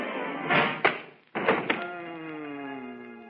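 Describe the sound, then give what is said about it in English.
A large book marked Julius Caesar falls from a shelf and strikes someone with two loud thumps in quick succession, followed by a lingering, slowly fading ringing tone; no voices. “Whoa, look out! You're going to drop it! Duck”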